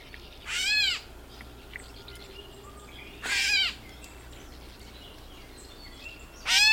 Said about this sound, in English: That's the call note of the gray catbird.